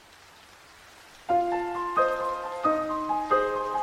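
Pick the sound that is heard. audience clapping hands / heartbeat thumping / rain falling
rain falling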